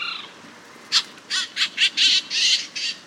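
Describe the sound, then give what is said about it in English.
Canada jay calls: a quick series of about seven harsh, raspy squawks in an uneven rhythm, fairly loud, with no talking, after a brief higher note at the start. “And unlike most other birds that nest in spring and summer, Canada jays spend that time caching food for the next winter.”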